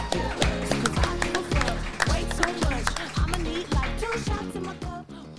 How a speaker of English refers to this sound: the next act doesn't have a bomb, but we're going to bring her up anyway because it's an awesome video. Please put your hands together, make some noise, make some clapping for